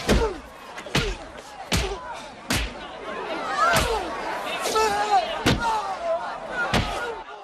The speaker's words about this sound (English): The crowd gathers behind Wilson, who tries to land two more punches, but misses both. Philo punches him back and lands a few more. Philo punches Wilson's stomach.